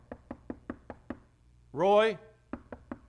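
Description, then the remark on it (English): Quick, evenly spaced knocks rap on a door in two bursts, about six then four, with a short, loud vocal call between them. “Would you open this door”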